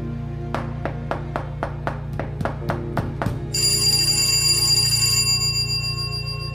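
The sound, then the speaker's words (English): A pull bell rings: about ten quick, evenly spaced metallic strikes, then a bright, sustained ringing that lingers and fades. A steady low hum runs underneath, and no one speaks. “If you hear the knocking again, please don't hesitate to pull the bell.”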